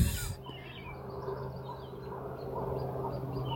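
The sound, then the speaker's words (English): A wigeon's whistling calls repeat over a steady low hum of background noise, after a brief rustling thump at the very start. No one speaks. “And there's that bird that I wanted to know. I feel like maybe it's a widgeon.”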